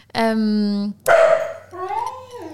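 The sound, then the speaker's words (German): A dachshund gives a long, steady, high-pitched yowl, then a sharp loud bark that slides into a falling, whiny tone. “Ja, der Dackel ist auch hier.”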